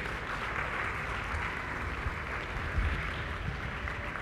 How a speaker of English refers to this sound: All right, can you give a round of applause for these guys? Thank you.